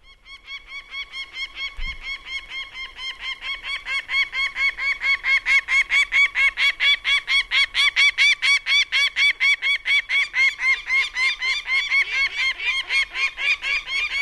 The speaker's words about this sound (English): We also have the call of a peregrine falcon queued up here.